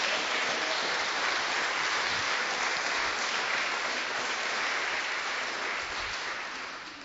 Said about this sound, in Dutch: Geef Jezus een geweldig applaus.